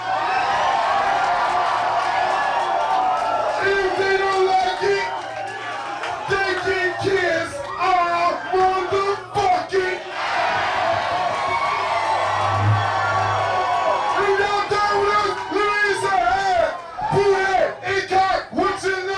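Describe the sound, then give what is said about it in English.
A packed crowd of about 400 people, crammed shoulder to shoulder in Club Futura, a small, dark club in Hollywood, cheers and whoops loudly and continuously at a band concert, with overlapping shouts and yells and a few sharp claps rising out of the roar. “There was about 400 people in the crowd that night, crammed in shoulder to shoulder.”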